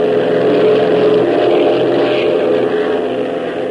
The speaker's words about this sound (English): Come on, Hop, hit that throttle.